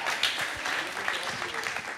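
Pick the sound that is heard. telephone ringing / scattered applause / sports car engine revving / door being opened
scattered applause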